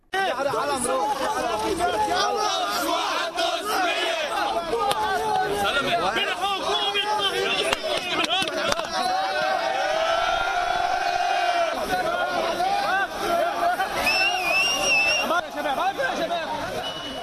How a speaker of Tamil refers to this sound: பைரூட்டில் அமெரிக்க தூதரகத்திற்கு முன்னர் பலஸ்தீனிய கொடியினை அசைத்துக் கொண்டு பலர் ஆர்ப்பாட்டத்தில் ஈடுபட்டனர்.